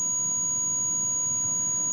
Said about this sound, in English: Notice now it sounds a lot more like a 1 kHz sine wave. It's not supposed to sound like that, but that is literally what happens when you clip it.